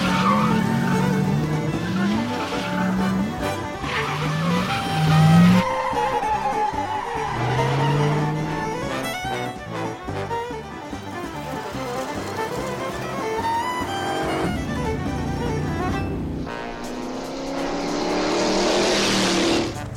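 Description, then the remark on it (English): A police car chase with engines revving and rising in pitch, tires skidding and squealing in repeated bursts, loud, with no one speaking. “You wreck this car, it's gonna come out of your pay.”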